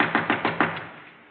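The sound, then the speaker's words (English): Four firm knocks on a wooden door in a quick, even rhythm, followed by a brief fading echo. No one speaks. “Open the door, Captain.”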